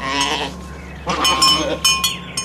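Goats bleat in a quick overlapping series of wavering, nasal cries, several calls tumbling over one another against a steady low background hum.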